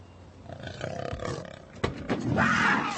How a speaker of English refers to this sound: What the hell? It's a goddamn cougar in the car. No, there's a cougar in the car. I put it in there. You gotta learn to drive with the fear. And there ain't nothing more goddamn frightening than driving with a live cougar in the car.